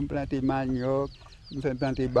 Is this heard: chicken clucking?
yes